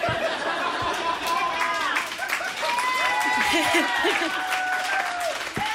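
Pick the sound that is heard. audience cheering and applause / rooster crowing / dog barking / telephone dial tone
audience cheering and applause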